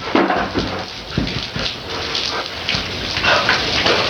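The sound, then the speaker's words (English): A man who has dumped boiling water on himself runs to a garden hose; water sprays steadily in a constant hiss, while high whimpering cries and yelps break through intermittently over the rush. “He takes boiling water, dumps it on himself, and then runs to a hose.”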